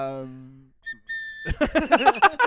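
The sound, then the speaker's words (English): A train whistle sounds as a train arrives: a steady, low, buzzy tone that fades out, followed by two short high-pitched beeps, and then people start talking loudly over it. “Oh, train's here.”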